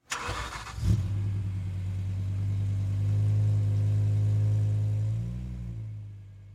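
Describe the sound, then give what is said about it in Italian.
A van engine cranks with a brief harsh burst, then catches and settles into a steady low rumble that swells and shifts pitch as it pulls away, as thieves flee the crime scene with the loot loaded in the van. No voices. “Il bottino è così ricco che ci vogliono due viaggi separati per caricarlo sul furgone. E così, fuggono dalla scena del crimine senza essere minimamente notati.”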